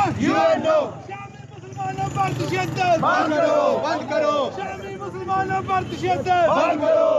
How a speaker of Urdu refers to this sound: انہوں نے اقوام متحدہ, اسلامی ممالک کی تنظیم OIC اور یورپی یونین کی طرف سے بمباری رکوانے کے لیے مبینہ طور پر کردار ادا نہ کرنے کے خلاف نعرے لگائے.